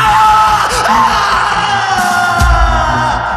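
A bloodcurdling scream that seems to come from the chess room, loud and held for several seconds with a harsh, strained edge and a rough burst of noise near the end.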